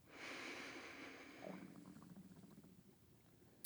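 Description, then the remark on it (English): A long, deep inhale drawn in through the nose during a guided breathing exercise, airy, swelling over about a second and a half before easing off into a quiet, lingering hush. “Let's take a few full breaths together. Breathing in.”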